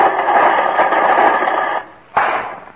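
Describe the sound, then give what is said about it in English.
Steady, loud crackling static from a tube radio receiver that cuts out briefly near the end, then bursts back in with a sharp rush of hiss as the radio is being tuned. No voices. “Well, that's as nice a static concert as I've ever heard”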